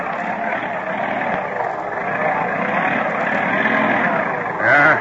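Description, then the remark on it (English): A heavy vehicle engine roars and strains steadily as a school bus plows into a bad snow drift during a storm in the foothills of the Rocky Mountains and something breaks, with a brief knock partway through and a short voiced sound near the end. “40 minutes later, as the school bus plows into a bad drift... Sounds like something broke.”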